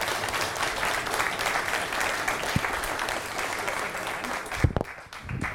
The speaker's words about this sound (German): Erstmal einen kräftigen Applaus für Stefan Luther.